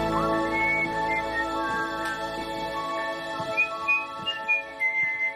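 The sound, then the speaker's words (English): A man whistles a lilting tune as he carries a wooden trunk under his arm, with soft footsteps and light shuffling underneath as he moves along. “He shuts the lid, then whistles as he carries the trunk under his arm.”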